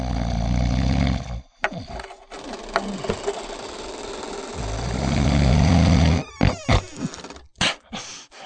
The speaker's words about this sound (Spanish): Su esposo roncaba sonoramente.